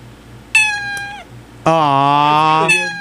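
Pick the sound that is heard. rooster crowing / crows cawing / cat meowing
cat meowing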